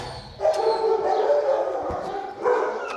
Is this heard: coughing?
no